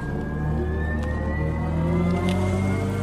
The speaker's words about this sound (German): Startet man beim Elektroauto den Motor, dann hört sich das eben so an.